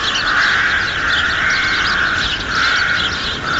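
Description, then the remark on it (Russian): A loud, dense chorus of rooks cawing in a garden in the evening as they settle into old nests, harsh calls overlapping continuously as a whole flock calls, with no voices and no pauses. “Когда слушаешь грачи, кажется, будто они ссорятся. Но просто у них такие громкие голоса, а говорят они о самых обыкновенных вещах.”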